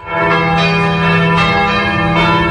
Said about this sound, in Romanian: Mai băgați clopotele.